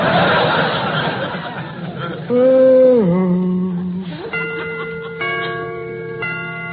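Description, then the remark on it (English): Snickering laughter gives way to a wavering tone, then a clock chime strikes three times about a second apart, each ringing note sustaining bright, steady overtones. “Remember to get them chimes made softer.”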